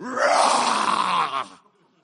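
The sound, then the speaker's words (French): A person imitates a lion's roar with a single loud, raspy, sustained growl lasting about a second and a half before breaking off, with no other talking. “Tu sais, j'aurais aimé amener le son d'un rugissement qui va bien, là, avec les grosses basses.”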